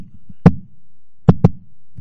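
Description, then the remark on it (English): Someone imitates their own heartbeat with their voice: a single low, thumping beat, then a quick lub-dub pair, fairly loud with a soft murmur between beats and no speech. “I can't do my heartbeat and talk at the same time.”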